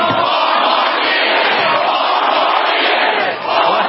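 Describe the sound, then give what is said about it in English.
A large crowd at an airport rally in Green Bay, Wisconsin cheers and roars continuously for President Trump, who is speaking there live. It is a loud, dense wall of voices that holds steady throughout with no pauses or individual speech standing out. “The crowd in Green Bay, Wisconsin at the airport cheering President Trump, who is speaking there live.”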